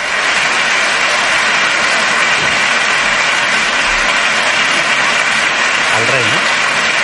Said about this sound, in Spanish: Es la ovación que le están dando a los reyes y a sus hijas en ese Palacio de Congresos, porque van a comenzar ya los premios Princesa de Gerona.